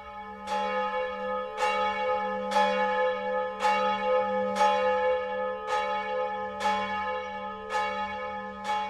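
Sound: bells ringing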